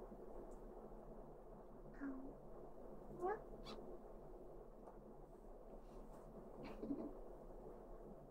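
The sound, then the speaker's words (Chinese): A kitten meows three times, short rising cries spaced a few seconds apart, fairly quiet against a low steady hum with no one talking. “听话的小猫咪是不会违抗妈妈的旨意的。”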